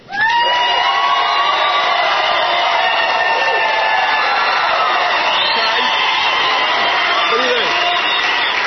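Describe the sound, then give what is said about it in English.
A large audience stands up and cheers loudly when asked who will vote for the president, a dense wall of shouting and whooping voices that swells quickly and holds steady for the whole stretch without letting up. “If you are going to vote for the president, stand up and cheer.”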